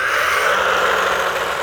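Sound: toy car engine revving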